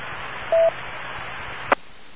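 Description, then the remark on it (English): A single short telephone keypad tone beeps over a steady line hiss, followed about a second later by a sharp click; no one speaks. “Apparently I may need to make a phone call to the Ivory Palace and find out whether I owe anything.”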